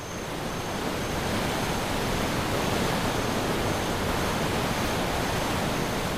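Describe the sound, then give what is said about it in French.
A steady, dense roar of rushing water from thundering waterfalls sliding down cliffs amid the green forest and wooded savanna of the Fouta Djallon massif, holding constant and loud throughout with no voices or other sounds. “Votre voyage commence donc dans un Éden vert de forêt et savane arborée au son de tonitruantes cascades d'eau glissant du haut des falaises.”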